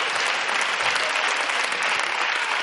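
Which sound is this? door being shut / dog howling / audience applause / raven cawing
audience applause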